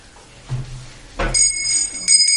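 Large bells ring out after a dull thud, with bright, sustained tones that hang and shimmer, then get struck again near the end. They are moderately loud, with no voices.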